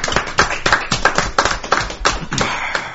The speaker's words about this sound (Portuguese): Você quer palmas também, né?